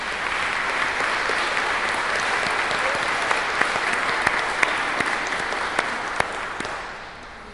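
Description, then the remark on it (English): An audience at a baptism service applauds steadily for several seconds, a dense wash of many hands clapping with a few sharper claps standing out before it tapers off at the end. “Well, God says there are a bunch of keepers, so we certainly applaud that.”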